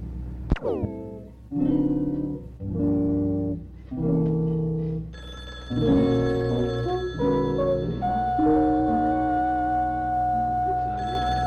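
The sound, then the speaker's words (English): A telephone rings in a steady run of short, bright, tonal bursts, evenly spaced, then continues in a denser, layered ring that carries on to the end. It is fairly loud, with no talking. “Oh, I'll get to the phone.”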